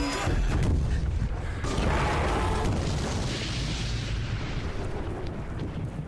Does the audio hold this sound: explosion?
yes